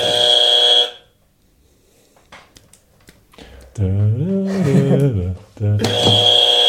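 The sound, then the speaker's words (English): A harsh, loud game-show-style buzzer blares at the start and again near the end, separated by scattered clicking taps and a wavering, sing-song vocal tone in between. “You're the buzzer guy.”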